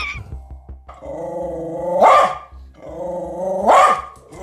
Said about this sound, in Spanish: A ver, en el segundo era un perro.